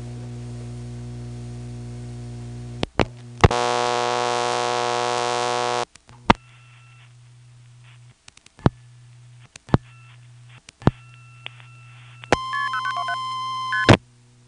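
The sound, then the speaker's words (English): A sharp click from a hook flash on a telephone line in lockout brings up a steady dial tone, which cuts off with more clicks, followed later by a quick run of touch-tone beeps dialing 1 plus 411 over a low line hum. “From lockout, we'll give a short flash, which will put us back to dial tone. Then we'll dial 1 plus 411.”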